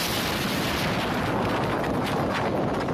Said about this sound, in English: Here's how that big explosion at a port in southern Iran sounded a few hours ago.